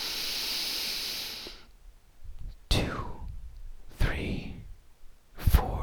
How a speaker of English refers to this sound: So close your eyes and let's begin. Take a long, slow, deep breath in.